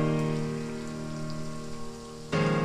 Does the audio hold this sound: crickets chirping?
no